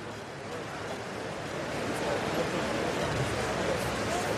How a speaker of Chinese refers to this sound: 我们现在从画面中应该可以看到啊，就是在两个这个双沉池是有这个瀑布沿着水池的四面倾泻而下，非常的壮观。